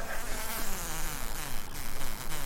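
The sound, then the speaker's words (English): A dense, steady insect buzz with drifting pitch from many male honeybee drones made to buzz during a semen harvest for inseminating queens, continuing without pause and with no voices. “You make them buzz a whole lot.”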